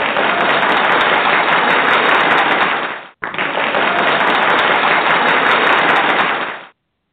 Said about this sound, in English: Best, I had to give you a double round of applause. Did you hear that? You got a double round of applause.